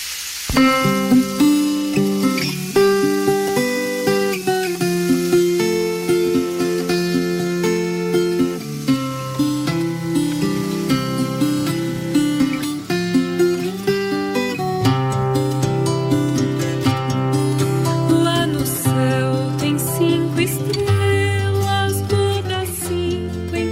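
A traditional folk song of the canoeists of the Vale do Jequitinhonha, in an adaptation, plays steadily throughout, with sustained melodic tones over a warm, shifting bass line at an even, moderate loudness and no voices talking over it.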